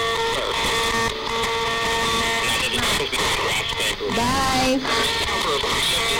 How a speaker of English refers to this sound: Is there anybody here, any spirits, who would like to come forward, use the energy from the black box, the one that's making the hissing?